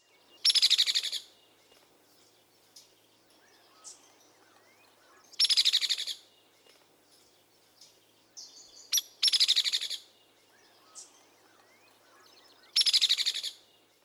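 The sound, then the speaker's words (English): A hairy woodpecker gives four loud, rapid rattle calls at fairly even pitch, spaced a few seconds apart, with faint birdsong and chirps in the background between them. “The hairy woodpecker has a lower, relatively even-pitched rattle.”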